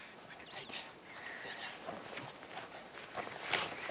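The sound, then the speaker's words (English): Quick, uneven footsteps of two people running through the woods crunch and rustle through brush and leaves, steady for several seconds, with soft breathy noise mixed in. “Diel and Micah are running through the woods.”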